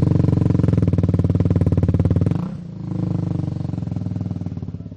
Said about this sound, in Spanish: para que todo el oyente sepa de lo que estamos hablando, porque esto es una moto ya de competición.